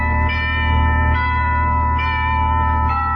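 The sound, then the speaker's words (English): A house doorbell in Santa Monica rings steadily as fog closes in, its sustained bright tones swelling in a repeating pattern roughly every second over a low, constant hum, with no voices. “Fog was closing in over the house when I rang the bell.”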